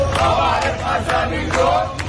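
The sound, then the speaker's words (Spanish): A large crowd in Damascus, Syria, chants slogans for al-Sara, the country's new president, at a celebration, in loud, rhythmic bursts of many voices, with a steady roar of the crowd filling the gaps between shouts. “Hoy algunos cantaban proclamas para al-Sara, el nuevo presidente del país”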